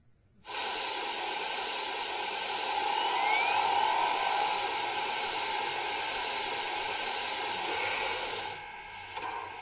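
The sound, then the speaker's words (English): A steam locomotive is steamed up: a loud, steady roar of hissing steam starts abruptly and holds for several seconds, broad, with a faint rising whistle-like tone partway through before it tapers off. “Let's get her steamed up.”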